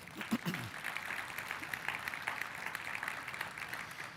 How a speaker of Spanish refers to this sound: ¿Le podemos dar un fuerte aplauso?